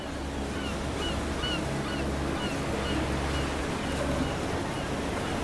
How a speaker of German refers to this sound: Von weitem hörst du Möwen rufend über das Meer gleiten.